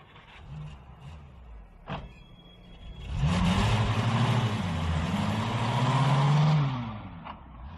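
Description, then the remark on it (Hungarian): A stolen car's engine idles quietly, then revs up loudly with rising and falling pitch as the car pulls away, a short click heard just before the acceleration; no one speaks. “Ez a kocsi honnan van? Lopott kocsi. El kell jutnunk vele, amilyen messze csak lehet.”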